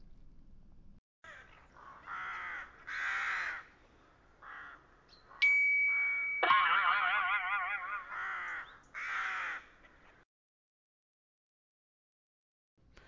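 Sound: crow cawing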